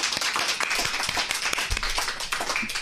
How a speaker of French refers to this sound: Oh, ouais. Un applaudissement.